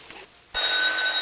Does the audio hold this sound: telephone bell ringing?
yes